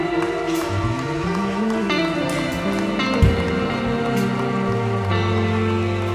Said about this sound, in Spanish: Denle un aplauso a Él.